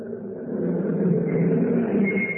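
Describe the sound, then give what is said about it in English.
A car engine hums steadily at a constant, fairly loud level, with a broad low rumble and a faint rising whine, like a vehicle cruising along the road; no voices. “Helter-skelter on a bucket seat. The wind whistling by.”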